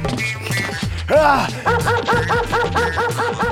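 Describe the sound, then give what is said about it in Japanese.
A dog that has just bitten a person barks: one drawn-out, whining bark, then a quick, steady run of short, sharp yaps over a low background hum. “犬が 人を噛んではダメっすよ。”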